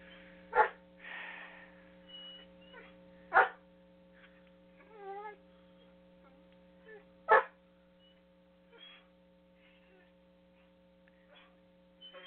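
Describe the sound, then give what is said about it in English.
A riled-up dog named Shiloh lets out three sharp, separate barks a few seconds apart, with softer yips and a wavering whimper in between, over a steady electrical hum. “Yeah, try to get a train of thought when you got a dog barking in your ear.”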